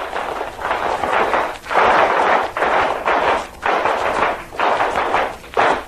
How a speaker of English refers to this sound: Well, ladies and gentlemen, that was a Class A applause from the Boy Scouts in our audience here tonight. And they give that only for Class A things. They didn't mean that for me. That was for our team tonight, I know.